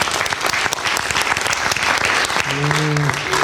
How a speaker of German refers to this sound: Wir applaudieren jetzt erstmal für die Frage, die an Herrn gestellt war, wie lange uns beide Spacken noch mit durchziehen will.